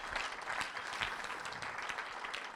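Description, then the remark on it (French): An audience claps steadily, a dense patter of many hands at an even, sustained level with no voices standing out, applauding and welcoming first-time visitors. “Est-ce qu'il y a des gens, vous nous visitez ici, pour la première fois, juste levez votre main à votre place, j'aimerais, il y a quelques mains, connecte mon témoignage, est-ce qu'on peut les applaudir et leur souhaiter la bienvenue ?”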